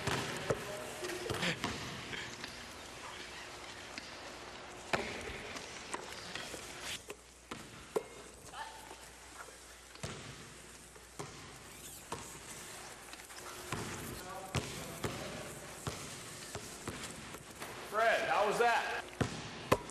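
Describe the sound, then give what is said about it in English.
A basketball bounces repeatedly in an irregular dribbling rhythm on a hard floor as a person in a wheelchair dribbles it while moving, with people talking in the background and faint rolling movement between the thumps. “Boy, how do you make your chair go at the same time as making the ball go?”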